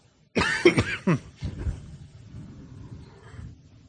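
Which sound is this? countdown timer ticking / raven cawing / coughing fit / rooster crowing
coughing fit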